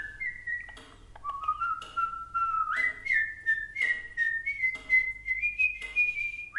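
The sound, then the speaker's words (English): A jaunty melody whistled by one person, clear held notes linked by upward and downward slides, played steadily over a faint low hum with no talking. “28-year-old Mozart, jaunty in his garnet coat and gold-rimmed cap, strolled into a shop to whistle at a starling in a cage.”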